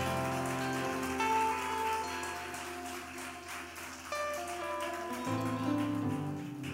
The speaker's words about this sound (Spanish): Vamos a levantar otro aplauso de exaltación al nombre del Señor.